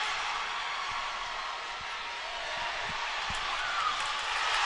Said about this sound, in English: crowd reacting to another mat.